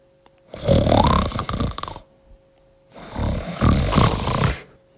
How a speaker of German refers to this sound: Angekommen am Baumhaus lehnten sie ihre Fahrräder an den nebenstehenden Baum und wollten gerade ansetzen, hochzuklettern, da hörten sie ein Schnarchen.